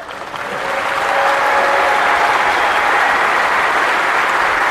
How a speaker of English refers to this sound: Drink up that applause, it's all for me.